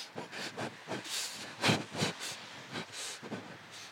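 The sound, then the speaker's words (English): A small model train carrying riders runs along a seafront in cold weather, its rhythmic hissing chuffs repeating at a brisk, slightly uneven pace, with no voices present. “And then I saw a little model train, so I got on it.”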